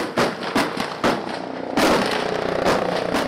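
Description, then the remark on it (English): Sharp gunshots crack out one after another at irregular intervals, with a loud, dense burst partway through, during a military training exercise at an old prison compound outside Kingston, Jamaica, over a continuous rumbling of helicopters and military vehicles racing across the terrain. No one speaks. “At an old prison compound outside Kingston, Jamaica, the sound of gunfire, along with shouting helicopters and military vehicles racing across the terrain.”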